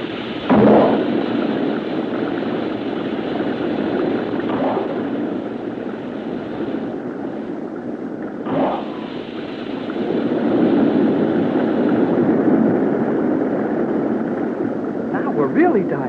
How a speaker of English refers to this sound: I will use the emergency jets. All of you must hold firmly to the arms of your steel chairs. The vibration may be sufficient to break the ship in half, but we must try it.